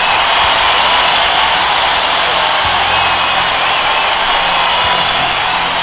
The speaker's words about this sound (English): Crowd goes wild. Yes, they're with me. They're with me on this.